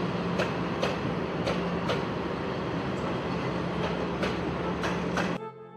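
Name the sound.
train running on rails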